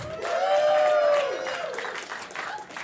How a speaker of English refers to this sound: Please give a round of applause to our erotic fan fiction author,